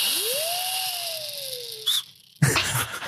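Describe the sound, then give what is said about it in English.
A single thin squeaky whistle from a lip kazoo used as a quiz buzzer rises quickly, then slowly glides downward for nearly two seconds before a brief chirp and a burst of rustling noise. “You have been given those lip kazoo things. They will be your buzzers.”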